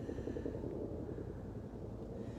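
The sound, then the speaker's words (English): A steady, low rumbling drone of helicopters flying, holding constant without breaks. It sits quietly in the background with no voices or other clear sounds. “I feel a little bit of annoyance hearing the helicopters in the background, but they didn't stop, so I thought, well, I'll just make a recording anyway.”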